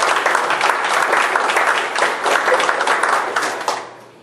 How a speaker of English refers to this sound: Thankful to God. Give Him a hand of applause.